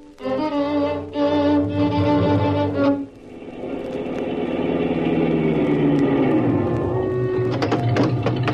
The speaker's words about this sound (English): Keep that motor running, I'll be right back.